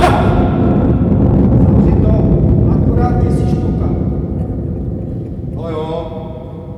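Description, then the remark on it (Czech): A loud thunderclap rolls into a deep, sustained rumble that slowly eases off, with a brief frightened shriek rising near the end. “Silné zařmění”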